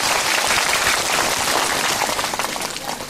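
A crowd claps steadily for about three seconds to thank the devas: a dense, loud burst of applause that holds level before thinning slightly at the end, with no voices over it.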